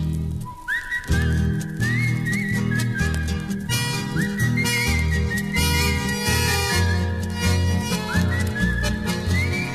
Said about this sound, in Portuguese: Eu trazia sem fastio, saudando a estrela boeira, uma coplita campeira bem floreada no assobio.